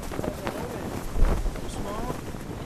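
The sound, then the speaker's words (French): A genoa sail flaps and snaps in strong, rising wind aboard a sailing boat, with irregular loud cracks over steady wind rush and indistinct voices in the background. “Donc c'est ça qu'on entend, c'est le Génois qui claque.”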